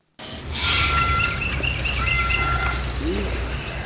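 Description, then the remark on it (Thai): Parrots call continuously for a few seconds at a bird sanctuary that houses 52 parrots alongside cockatoos, macaws and African grey parrots: a dense mix of overlapping chirps, whistles and harsh squawks over a steady low rumble, with no one speaking. “นกแก้ว52ตัวของที่นี่อยู่ร่วมกับนกสายพันธุ์อื่นเช่นนกกระตั้วนกแก้วมาคอและนกแก้วสายพันธุ์แอฟริกันเกรย์”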